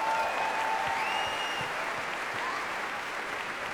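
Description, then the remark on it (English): Steady audience applause for composer Steve Martland after the London Symphony, conducted by Andrew Gourley, played his piece Principia. A dense wash of many hands clapping at an even level throughout, with no voices rising above it. “We have another round of applause for Steve Martland, please, ladies and gentlemen.”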